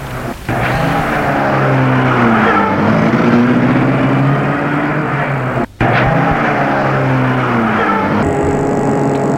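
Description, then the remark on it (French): The engine of a black Rolls runs loudly and steadily, its pitch climbing as it pulls away and accelerates, with a brief break partway through like a gear change. No one speaks. “La portière s'ouvre. Il entre dans la voiture et il se trouve assis près de la dame en noir.”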